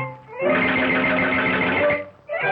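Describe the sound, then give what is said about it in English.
A short burst of bouncy cartoon music with a steady, stepping beat like walking footsteps, loud, pausing briefly before starting up again; an early Disney-style 'Mickey Mousing' score synced to Mickey walking on screen. “And we can even see, as we listen to this, we see Mickey walking.”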